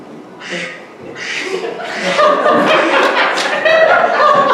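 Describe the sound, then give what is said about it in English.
Ducks quack in a busy, overlapping chorus, starting with a couple of separate calls and building into a dense, continuous stretch of nasal honks. “Well, ducks are in the area of peace.”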